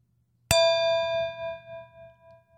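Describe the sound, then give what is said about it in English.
A single bright chime, signalling a change of topic, rings out with a sharp metallic strike, then sustains and slowly decays with a gentle wavering shimmer, heard clearly on its own without any talking. “The chime indicates that it is time for us to move on from the topic of our spinny wheel to the topic of our show today.”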